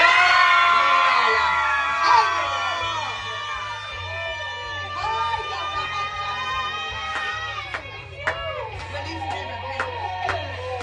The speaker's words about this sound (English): You got to release it. You got to really scream with her. I want you to scream with her. On the count of three. One, two, three. Scream.